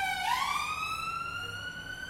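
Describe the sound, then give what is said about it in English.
An ambulance siren sounds as the ambulance goes past, its tone sweeping upward and then holding a steady high wail. It plays alone, with no voices over it. “Sorry, it's an ambulance going past.”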